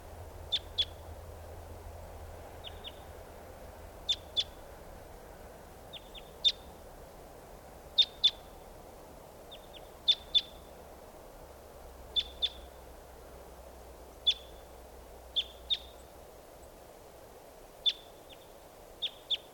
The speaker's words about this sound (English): And this is a wild bird, lone bird. And she just flew over the net site there. A female. Stop. Here's a wild bird.